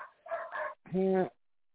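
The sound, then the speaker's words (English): A dog barks in quick succession: two short, rough yelps followed by a longer, higher, more tonal bark, fairly loud with a brief pause between them. “My dog will bite his dog because he's barking incessantly.”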